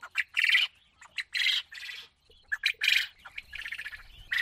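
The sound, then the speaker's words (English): Domesticated quail in Zimbabwe call in a rapid jumble of shrill chirps and squawks, several birds overlapping in short bursts, fairly loud, with no talking. “Large numbers of Zimbabweans are making a living through selling domesticated quail birds”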